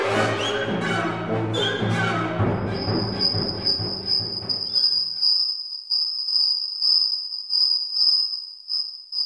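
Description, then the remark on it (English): Full orchestral music plays for a couple of seconds, then turns thin and heavily filtered to simulate how a cricket (Teleogrillus oceanicus) would hear it, leaving a shrill, steady high-pitched whine with faint pulsing fragments of the music underneath. No one speaks. “How about Stravinsky heard by a cricket?”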